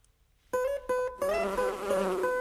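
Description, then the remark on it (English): Loud buzzing of honeybees around a hive in summer that starts abruptly, stutters briefly twice, then thickens into a steady, layered drone of many bees humming together with no voices. “In the height of a season, you could have anything up to 80,000 bees in a colony.”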